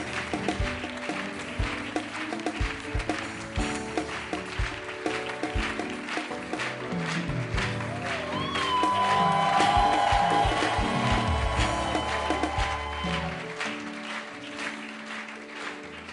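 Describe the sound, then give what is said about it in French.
An audience cheers and applauds loudly for the Lord as an evangelist is welcomed, a dense, continuous wash of clapping and shouting voices that swells midway and carries on without letting up, with a few higher whoops rising above the crowd. “Je vous demande de recevoir pour le Seigneur, sous les acclamations pour le Seigneur, notre père, l'évangéliste”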